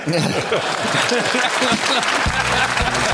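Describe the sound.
Applause from a small group, a dense patter of hand claps filling the whole few seconds at steady volume, with voices murmuring and a low hum joining near the end.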